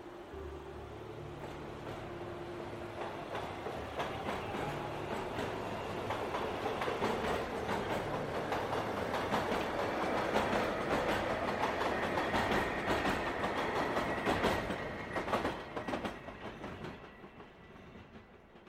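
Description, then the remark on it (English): A train rumbles along the rails with a steady clickety-clack of wheels over track joints. The noise swells to a loud roar, then thins and fades away in the final seconds. “And even more importantly, I warn you, I beg you, don't ride the train to the end of the line.”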